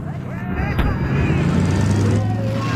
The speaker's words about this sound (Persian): این قسمت مسابقه نمکزار. ماشینای مسابقه نمکزار.